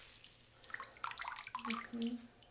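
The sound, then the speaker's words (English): Warm water is poured over someone's shoulders and down their back in a bath, splashing and trickling in a soft continuous pour with small sloshing bursts, fairly quiet, with a faint murmur of voice underneath. “Just feel the warm water. Okay. Pour it over your shoulders. And pour it down your back.”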